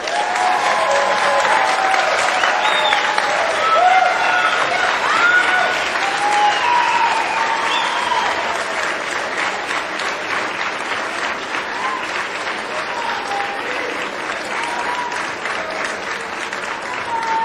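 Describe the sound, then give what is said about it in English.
At a Cuesta College graduation ceremony, a large standing crowd applauds the teachers, families and friends who supported the graduates. The clapping is steady and dense for the whole stretch, a loud sustained wash with faint scattered voices and cheers mixed in, easing only slightly toward the end. “So please stand and applaud all of these folks here who are supporting you.”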